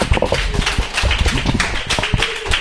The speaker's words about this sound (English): Let's give the Lord a clap. Praise the Lord. Let's just have one more round of applause for our brother.